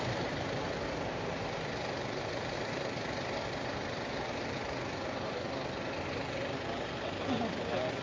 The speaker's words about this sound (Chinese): 佐敦多災多難，消防车就开走咗啦